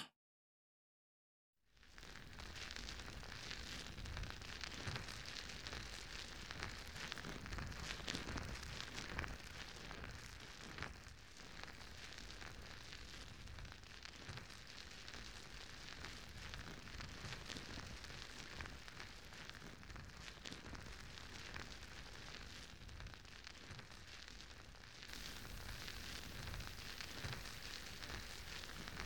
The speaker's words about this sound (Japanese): 次は耳の泡洗浄、それからオイルマッサージになります。まずは耳に泡をつけて、耳や周りの汚れを落としていきますね。では、泡を手に出して。両耳同時に失礼しますね。